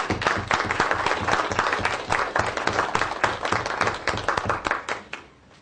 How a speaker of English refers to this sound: Can we give them a round of applause here?